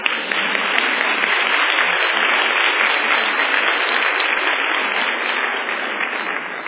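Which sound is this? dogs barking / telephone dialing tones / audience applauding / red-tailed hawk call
audience applauding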